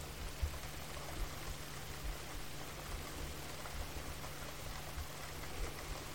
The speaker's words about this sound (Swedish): Fem andetag, bara följa regnet och andetaget i synk. Känn hur regnet möter ansiktet samtidigt som du andas mjukt och lugnt.